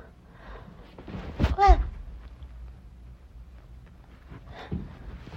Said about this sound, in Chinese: 这么快就打呼噜了？喂，这就睡着了？